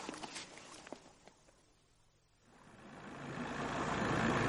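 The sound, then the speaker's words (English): A car engine idles with a low hum, then swells into a steady, louder rumbling roar that builds toward the end, preceded by a few sharp clicks and knocks. “Cut the engine.”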